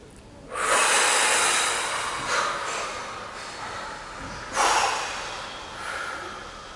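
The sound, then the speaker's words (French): A long, deep exhale during a guided breathing exercise rushes out as a steady breathy hiss, easing off and swelling again before a second forceful push of breath, with no one speaking. “Et à l'expiration, nous allons mettre à distance tout ce négatif.”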